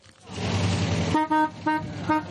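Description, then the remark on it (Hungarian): Vintage cars, all over 40 years old, on the Pannonia Rally rumble through the streets of Győr, Hungary, on a Saturday morning with a broad engine roar, then a car horn honks several times in short, bright bursts, loud over the motor noise. “Szó szerint ellepték Győr utcáit szombat délelőtt a veterán autók.”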